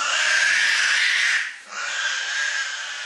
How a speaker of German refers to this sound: So verabschiedet sich der tasmanische Teufel.